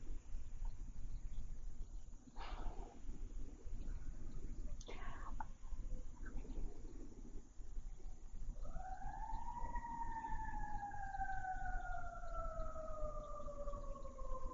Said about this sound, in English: There's always the opportunity when one hears a siren to know that at the very least, probably somebody's very frightened. There's a fire or an incident or an illness or something.